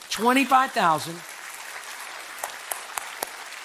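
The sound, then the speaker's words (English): An audience breaks into applause, cheering for 25,439 gospel conversations held on the year's mission trips, with loud whoops and cheering voices at first, then the shouts drop away, leaving a steady wash of clapping punctuated by a few sharp individual claps. “Let's cheer for that.”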